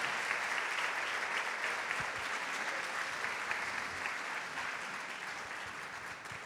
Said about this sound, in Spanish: Bueno, entonces redoblamos el aplauso para él.